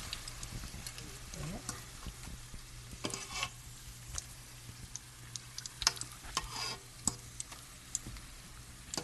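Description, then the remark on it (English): Dough pastries (farfalette dolci) frying in hot oil, ten at a time until light brown: a steady sizzle with scattered crackles and small pops, plus a low background hum and occasional clinks; no one speaks. “Right after they're done frying?”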